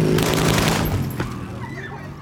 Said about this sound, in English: On the streets of Medellin, Blanco develops what becomes her signature method of assassination, the motorcycle drive-by shooting.